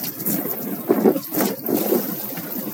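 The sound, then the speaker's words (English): Steady rushing cold water pours and splashes continuously over a person's body during a morning cold shower, a dense hiss with slight surges; no voices. “Let that water run over you until you're fully awake.”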